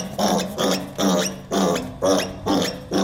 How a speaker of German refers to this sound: Und eben hatten wir übrigens ein gestresstes Ferkel.